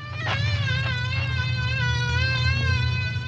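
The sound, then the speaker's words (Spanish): A steady drone of buzzing bees coming out of a man's cut trousers in a palace fills the whole stretch, loud and continuous with a slightly wavering pitch, and no voices are heard. “Tan pronto los esclavos sacaron a todas las abejas del palacio”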